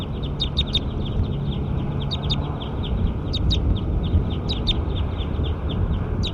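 Bursts of short, high-pitched bird chirps repeat every second or so over a steady, loud low rumble of background noise, with no voices.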